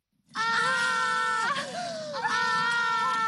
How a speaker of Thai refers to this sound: แล้วบอกด้วยความตกใจว่ารายการของที่ว่าตกอยู่ที่พื้นและทั้งสองสาวก็กรี๊ดขึ้นพร้อมๆกันค่ะ